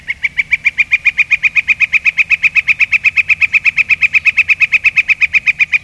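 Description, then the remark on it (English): A northern flicker calls in a long, rapid, steady series of loud, ringing notes, evenly spaced like a rolling 'wick-wick-wick', with faint background hum. “It's our good fortune that the delightful flicker is a common sight from backyards to woods and canyons.”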